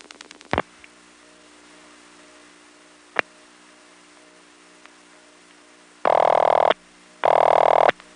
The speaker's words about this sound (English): then dial 9999, a quadruple ringing number